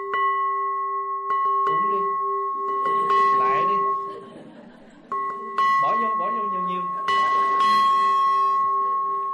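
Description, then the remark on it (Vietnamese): A village communal-house or shrine bell, not a pagoda bell, rings repeatedly, each loud strike leaving a long, steady metallic hum that carries into the next, while voices talk over the ringing. “Đây là chuông có đình miễu, không phải chuông chùa.”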